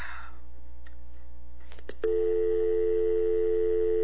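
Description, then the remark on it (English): A few faint clicks and handset rattles give way to a steady, unbroken telephone dial tone that starts halfway through and hums on loudly and evenly until the end. “I just cut the dial tone out with my voice.”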